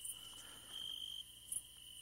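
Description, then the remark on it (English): Crickets chirp steadily in the woods, a thin, high, continuous trill with a few brighter bursts, fairly quiet with no voices. “Hello, I'm back, and so are the little crickets.”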